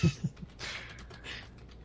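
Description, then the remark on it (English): Quiet, irregular clatter of keyboard typing as several people look up the Hyrule Warriors release date, with a few soft thumps of keystrokes and no voices. “Yeah, we can hear us all typing looking at it.”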